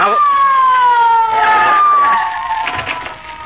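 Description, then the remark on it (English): A loud police squad car siren wails in one long sustained tone whose pitch slides slowly downward, easing off a little in volume toward the end. “Somebody here call for a squad car.”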